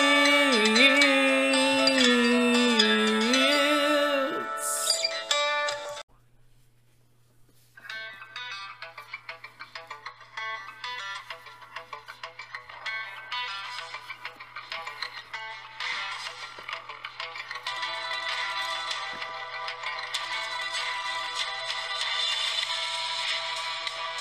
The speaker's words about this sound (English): Oh, do my ears deceive me, or do I hear the glorious theme song? That's right, fives and tens, we're back for another exciting episode of the Hijinks Ensues Wrestling Podcast, the HEWP.